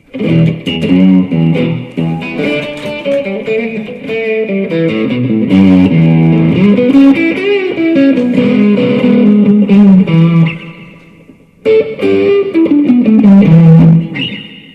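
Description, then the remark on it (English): A loud, distorted electric guitar drenched in swirling pedal oscillation, with tones repeating back on themselves and sweeping up and down in pitch. A brief drop-out near the end. “It's called oscillation. So it's the signal just repeating back over itself, which gives you that swaying extra noise.”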